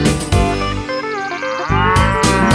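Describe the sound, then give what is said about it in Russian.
A drawn-out, wavering cow moo, apparently voiced by a singer imitating the animal, rises over a loud, busy musical backing with steady beats. “Однажды жарким летом решили спеть дуэтом корова и баран, козе вручив баян.”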